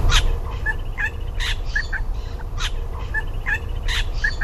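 A regent honeyeater mimicking a little wattlebird gives harsh, raspy squawks, repeated about once a second with short clucking notes between them, over a steady background rumble and no talking.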